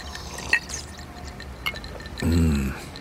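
Two sharp glass clinks, then liquid pours into a glass for under a second while an old-fashioned cocktail is mixed, with a faint rising gurgle before it stops. No one speaks.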